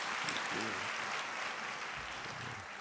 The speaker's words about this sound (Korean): 우리 새벽부터 20진 1부 2부 수고하셨는데 다시 한번 박수로 격려하십시다.